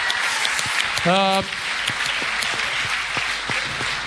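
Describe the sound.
An audience applauding: a dense, steady patter of many hands clapping for the whole stretch, with a short voiced whoop or cheer rising above it about a second in.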